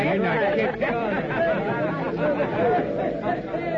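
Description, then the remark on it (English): Dense crowd chatter at a circus as people move through the crowd to the main circus tent, many overlapping voices blending into a steady, busy murmur with no words standing out, holding at an even level throughout. “Laughing and joking, Hop, Tank, and Agatha and Gale follow Mr. Bentley through the crowd to the main circus tent”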